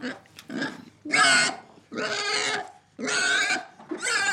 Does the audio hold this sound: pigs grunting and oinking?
yes